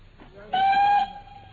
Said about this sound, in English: We get halfway to London, and you suddenly insist on dragging me off the train at this suburban halt and not a refreshment room in sight.